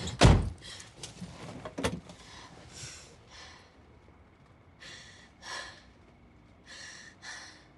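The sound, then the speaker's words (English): A woman who has just got into her car outside a studio pulls the car door closed with a heavy thunk, followed by a lighter knock and then soft rustling and shifting movements as she settles in her seat. “Cheryl sits properly and grabs the door.”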